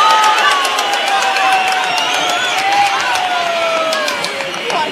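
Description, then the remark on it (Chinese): Steady, loud applause from contest spectators for Wushuang fills the whole stretch, with a dense wash of clapping and a few scattered cheers and voices rising above it. “好了，诸位观众，现在的比分是2-1，无双遥遥领先，给无双掌声鼓励。”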